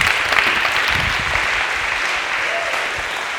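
A crowd applauds steadily, the dense clapping sustained at an even, fairly loud level throughout with no voices standing out above it.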